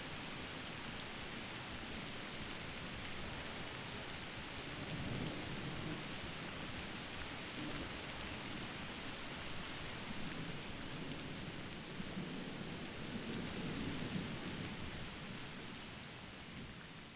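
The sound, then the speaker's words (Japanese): Steady, dense rain pours down without a break, a broad hiss with soft low rumbles now and then beneath it. No voices are heard. “何も考えずに雨の音だけ聞いていたいな。”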